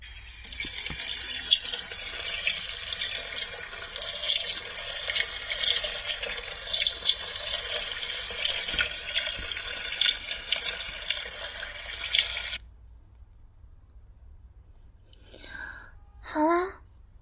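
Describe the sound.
A tap gushes water steadily into a bath being filled for someone to wash, for about twelve seconds, fairly loud, then shuts off, followed by a short murmur or sigh from a voice.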